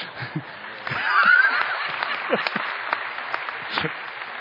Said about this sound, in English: I wasn't done with the story. They also interrupted me with applause, which, if you feel led to do it again, go ahead. I like it.